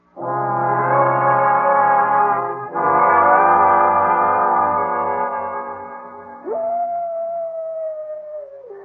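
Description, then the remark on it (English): A coyote howls from the canyon in three long, sustained wails with no one speaking. The last call jumps up sharply in pitch, holds, then slowly slides downward before fading. “It's just a coyote.”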